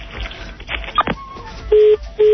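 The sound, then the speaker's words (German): Telephone keypad dialing tones as a call is placed: a couple of short, loud, steady beeps near the end, preceded by fainter clicks and indistinct background noise. “Vielleicht rufen wir halt einmal.”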